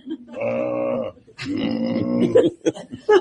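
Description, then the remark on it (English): A sheep bleats twice, two long wavering cries about a second each, the second slightly louder, followed by a few short knocks and shuffling sounds. “Stop feeding the sheep.”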